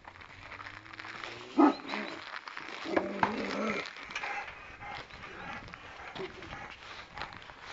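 A large dog in Listvyanka gives a few deep, loud barks with a short pause between them, over an outdoor background of rustling and low noise.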